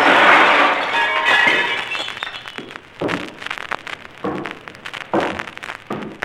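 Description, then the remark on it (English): A loud crash as a large mirror over a sideboard shatters, followed by a rush of bright tinkling glass shards and then a scattering of smaller pieces clattering down in irregular bursts. “The large mirror over the sideboard suddenly shattered.”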